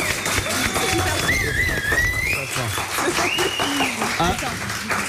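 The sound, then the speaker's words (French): A live studio audience of the It West radio show Le réveil de l'Ouest claps and cheers steadily as guests join, with sharp whistles rising above the dense, loud roar of hands and voices throughout. “Mais vous avez vu ce public qu'on incroyable.”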